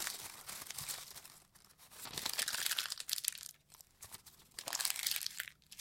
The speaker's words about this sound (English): Folded up the pieces of paper and put it in the hat.